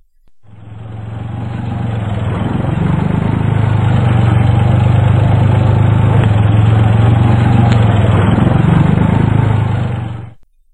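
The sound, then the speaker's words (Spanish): A tractor's heavy diesel engine runs steadily, a loud low rumble with constant droning tone that fades in, holds for about ten seconds, then cuts off. No voices. “Tenemos el sonido de un tractor.”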